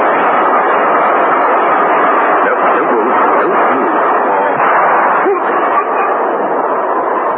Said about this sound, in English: As the train screamed through the station, the revolver shot that killed Mark Lucas was not heard.